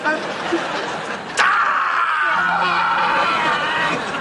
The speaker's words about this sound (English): Hey, you've got to stop screaming.